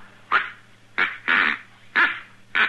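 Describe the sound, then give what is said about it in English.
A duck call, ordered by mail from St. Louis, blown in five loud, raspy honks at an uneven pace, the third one drawn out longer, with a faint steady hum underneath and no talking. “This is a duck call. I ordered all the way from St. Louis.”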